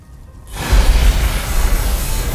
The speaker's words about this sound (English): That don't sound like regular thunder. It's not. What then? Like Xander said, the beginning of the end for Underworld City.